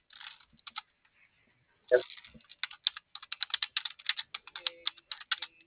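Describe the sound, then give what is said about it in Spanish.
The kids typing rapidly on a computer keyboard, a dense run of light plastic key clicks in an uneven rhythm, with a louder thump near the start and a few scattered taps before the burst. “Y nomás los chicos están de teclado.”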